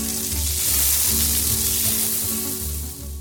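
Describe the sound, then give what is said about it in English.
A big flat flounder sizzles loudly and steadily in a hot frying pan, a continuous crackling hiss with a low rumble beneath it and no voices. “Looks like he'll be frying up that big flat flounder for supper.”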